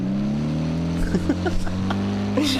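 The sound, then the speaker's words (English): A hot rod car engine rumbles loudly and steadily, holding a deep, throaty drone with a slight rise in pitch, while brief faint voices break through in the middle. “And they have like hot rod cars too.”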